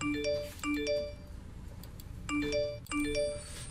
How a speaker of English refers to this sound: all around me, bings of loud notifications.